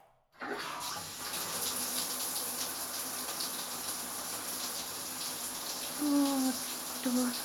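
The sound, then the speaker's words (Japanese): Steady shower spray hisses continuously for several seconds as water is run over someone's head to rinse the hair before washing, with a brief soft voiced hum rising over it near the end. “まずは、シャワーで頭を流すね。”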